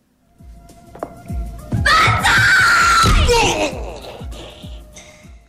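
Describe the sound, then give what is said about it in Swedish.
A loud, sustained scream rises sharply and holds for about two seconds before trailing off, with dull thuds underneath and quieter, indistinct sounds continuing afterward. “Ett högt skrik följt av lågmäld dialog.”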